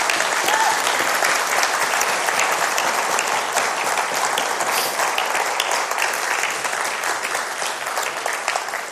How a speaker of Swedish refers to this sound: Så jag tycker, bara som en uttryck av min tacksamhet, kan vi ge dem också en applåd.